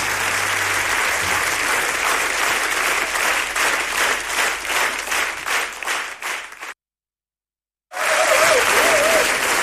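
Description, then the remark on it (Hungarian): Loud, dense applause from a crowd, steady at first and then swelling into rhythmic clapping before cutting to silence; after a pause the applause resumes with a faint whistle. “Köszönjük, Taps!”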